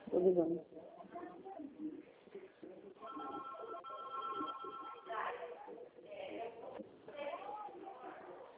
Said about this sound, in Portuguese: Você ouviu os bips, os outros telefones que estão tocando, e é normal